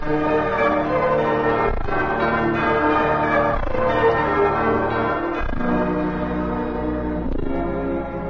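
A large bell, the new Liberty Bell being dedicated, tolls steadily, struck roughly every two seconds, each heavy clang swelling into a rich, ringing hum that never fully fades before the next strike. No voices are heard.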